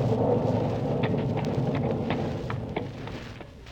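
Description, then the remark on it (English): A thunderstorm with rain over a golf course rumbles steadily throughout, a dense, heavy low roar with scattered crackling bursts over it, fairly loud and continuous with no voices. “Wow, 16 holes in this storm.”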